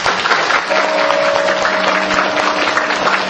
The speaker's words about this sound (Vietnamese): Xin tất cả đại chúng cho thượng tọa Thượng Hạnh Hạ Mẫn một tràng pháo tay.